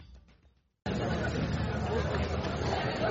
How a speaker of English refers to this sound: Venice is abuzz with crowds as the 61st edition of the Venice Biennale gets underway.